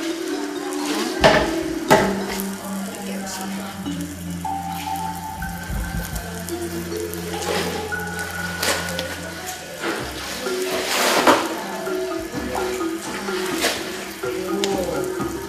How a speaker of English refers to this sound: That is a boiling process to removing wax. Inside we have many pieces with different color we put together. And then we boiling about 20 until 30 minutes until all the wax is removed.